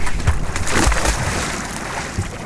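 Water sloshes around a boat in the open air, with a heavy splash near the start as someone drops into the water, followed by steady rushing and lapping.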